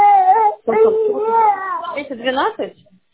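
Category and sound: human body sound, child crying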